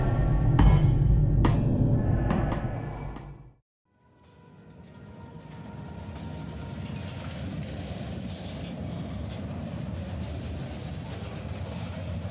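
A train rolls along the rails with a low, steady rumble and faint clickety-clack. The noise drops out briefly near the start, then returns as a continuous, moderately loud roar.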